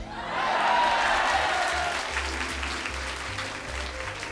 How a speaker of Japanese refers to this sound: 今日で最も大きな拍手を期待する私だ。